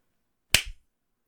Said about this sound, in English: Ooh, sorry, baby. You don't get a warning when I want to slap that clit.